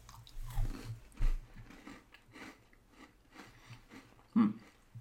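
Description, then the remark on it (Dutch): Biting into a sandwich cookie, a plainer variant of an Oreo with less chocolate, followed by steady crunchy chewing with a few sharper crunches, fairly quiet, no talking. “Dus ik ga even een hapje nemen nu.”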